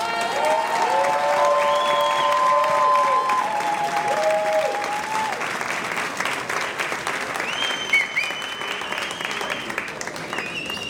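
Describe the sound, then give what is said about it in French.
Sustained applause from a large audience for about eleven seconds, steady and dense, with a few whoops and cheers rising over the clapping, as a speaker is welcomed. “Je vous demande de l'accueillir sous un tonnerre d'applaudissements,”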